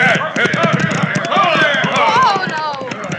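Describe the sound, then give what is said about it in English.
Rapid, rhythmic hoofbeats of riders coming at a high gallop, the sheriff from Bitter Creek and his posse, pounding steadily throughout, with voices calling out over the drumming hooves. “Rider's coming at a high gallop.”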